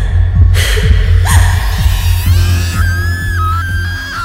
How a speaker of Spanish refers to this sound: ¿Qué le pasa? No se asuste. Así siempre es. De repente se pone a gritar con rabia.